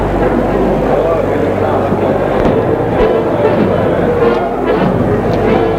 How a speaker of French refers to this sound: Puis, petit à petit, il entend du bruit, comme le bruit de la rue. Le bruit de la rue, et en plus, plus de bruit de voix. Que de la circulation. On entend même des trompettes.